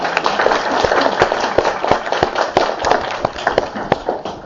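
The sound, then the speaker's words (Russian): A crowd applauds the author, many hands clapping steadily in a dense, crackling wash with sharper individual claps poking through, sustained at a fairly loud, even level without any talking. “Аплодисменты автору.”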